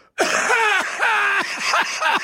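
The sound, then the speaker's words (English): A harsh hacking cough from a person with a summer cold, in a run of about five throaty bursts, rough and phlegmy, each ending in a strained, groaning rasp as the throat clears. “I did leave the room because I've got this summer cold and I had to hack up half a lung.”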